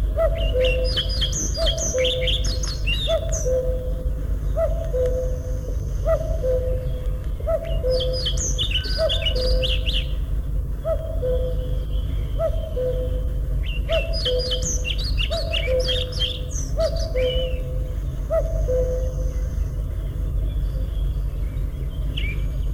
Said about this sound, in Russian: На заросших лесных сечах можно услышать протяжный свист дроздов-белобровиков. После свистовой трели следует тихое, неразборчивое верещание.